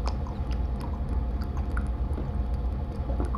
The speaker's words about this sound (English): Yep, I'm chugging that water, I guess.